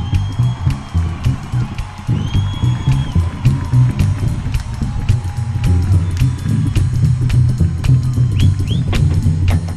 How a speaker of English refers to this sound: À la contrebasse, le seul et unique. Vous applaudissez très très fort, un ami, un vrai,